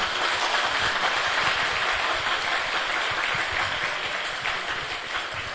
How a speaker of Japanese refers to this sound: 大きな拍手で歓迎してください。